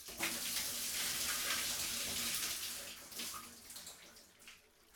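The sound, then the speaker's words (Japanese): Water pours in a steady, hissing stream as a customer's back is rinsed of soap foam in a bath, loud at first and then easing off and trickling toward the end, with no voices. “お背中流していきますね。もう少し流します。”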